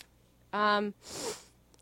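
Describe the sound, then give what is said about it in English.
A brief voiced sound, then a single breathy sniff right into the microphone, loud and lasting about half a second. “I should stop sniffing in the microphone.”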